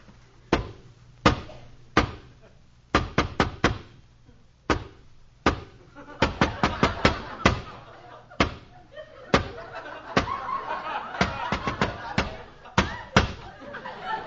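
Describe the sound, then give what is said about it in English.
Sharp, loud raps on a door in an irregular patterned rhythm, a special knock given by the Artful Dodger at Fagin's door, single knocks and quick clusters repeating for about fourteen seconds, with faint murmuring voices underneath in the second half. “I'll give the special knock.”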